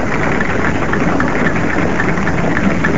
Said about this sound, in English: A wonderful reception. The whole crowd is standing and the England team are joining in, and led by Yardley, three cheers for the Don as he gets to the wicket.